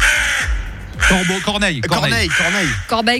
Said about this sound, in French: Corbeau. Il paraît qu'il n'y a pas de corbeaux en Suisse, il n'y a que des corneilles. Ils ne sont pas plus dans les montagnes, les corbeaux? Bah, là, en tout cas, c'est corbeau ou corneille, ça marche aussi.